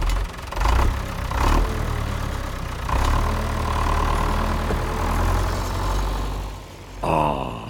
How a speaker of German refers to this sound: Nun sitzt Bibis Papi stolz und strahlend auf dem Traktor und lenkt ihn zur Koppel.